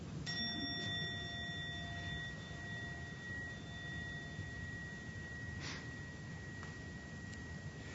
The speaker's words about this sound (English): So let's ring the bell. Not the plural. I will ring the bell.